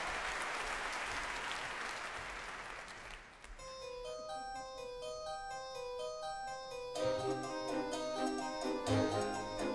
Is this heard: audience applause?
yes